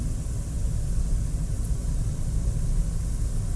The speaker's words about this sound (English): I'm just about to pull into the car park, so I'm sure I'm going to see. Everything's lit up.